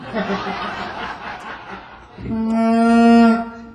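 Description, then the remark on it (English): A breathy, rustling lead-in, then a person gives a loud, low, nasal moan held for about a second, imitating a moose call, fading with a short echoing tail from reverb added by the sound man. “That's a moose.”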